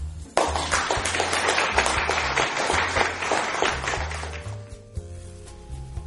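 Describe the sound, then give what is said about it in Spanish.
A burst of applause from a hallway, many hands clapping in a dense, steady patter that fades slightly toward the end, with a low musical hum underneath. “Del pasillo comenzaron a oírse unos aplausos.”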